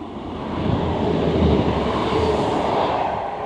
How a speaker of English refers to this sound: Hello train, you just went past me at quite a fast speed. Welcome to a train station.